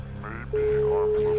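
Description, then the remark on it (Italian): A steady, continuous phone ringback tone on an outgoing call begins partway through and holds to the end, fairly clear over a low background hum and faint murmuring voices. “Oh, squilla.”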